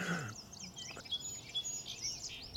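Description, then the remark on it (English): A song sparrow sings a quick run of bright chirps and whistled notes ending in a trill, moderately faint, over a soft outdoor background with no voices. “You know, you have to know this sparrow because it's with us everywhere. Song sparrow.”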